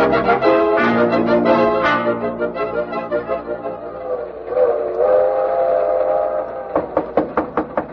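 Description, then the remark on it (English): A train rumbles along while a loud, sustained steam whistle blows in long harmonic wails, ending in a quick run of rhythmic chuffing bursts. “Oh, Smoke, how did you get on this train?”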